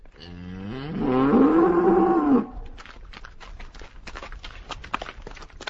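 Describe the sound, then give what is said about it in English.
A single loud, drawn-out cow moo rises and falls over about two seconds, followed by scattered crunching footsteps or hooves shuffling over loose debris, as cows wander through the rubble of ruined buildings in Kana after an airstrike. “Cows and donkeys wander aimlessly through the rubble of the ruined buildings.”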